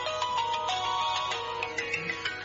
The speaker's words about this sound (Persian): د موبایل زنګ دی، ځواب ورکړه. ښځې، زه ویریږم، ته ځواب ورکړه.